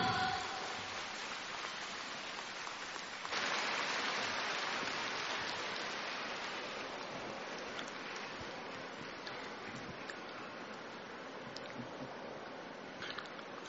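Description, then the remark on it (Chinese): An audience claps steadily for over ten seconds to welcome radio station head Lu Junhong, a dense crackling roar that swells a few seconds in and then slowly tapers off, with no voices heard. “下面让我们用最热烈的掌声恭请尊敬的卢军宏台长为我们慈悲看图腾。”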